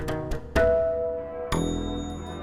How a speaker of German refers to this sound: Samstagnachmittag in Deutschland. Die Kirchen läuten den Sonntag ein, rufen die Menschen auf, die Arbeit ruhen zu lassen und den ersten Tag der Woche durch Gottesdienst und Gebet zu heiligen.